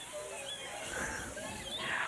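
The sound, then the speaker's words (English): Several voices make high, thin squeaks imitating a mouse as part of a group sound-effects activity, a few short bright chirps rising over a steady murmur of group noise. “A mouse goes.”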